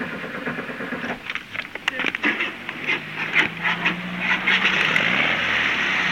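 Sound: car engine cranking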